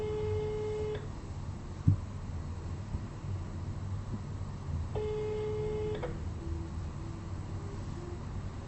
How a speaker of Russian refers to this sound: Продолжается попытка позвонить до абонента, который пока что не успел ответить на ваш вызов.